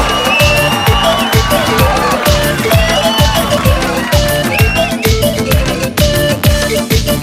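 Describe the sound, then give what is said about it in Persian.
A loud, dense crowd roars with screams and cheering, whistles streaking through the din, over a steady pounding beat that keeps thumping throughout. “صدای جیغ و سوت ها.”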